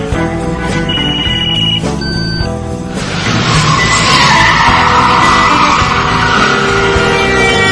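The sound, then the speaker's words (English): A car's tires squeal in a loud skid for a few seconds, then a harsh, noisy burst of crashing impact as it runs into a van, roaring on steadily to the end, with no voices. “She ran into a van and hit a homeless man.”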